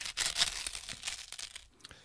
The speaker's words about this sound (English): Oh, and if you hear any crumpling, it's me trying to stop myself eating all my sarnies at once.